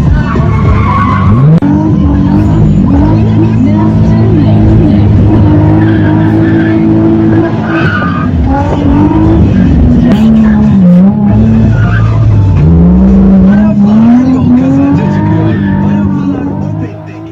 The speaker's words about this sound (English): What you're probably thinking is this guy is a fool. What idiot would drive through traffic like that?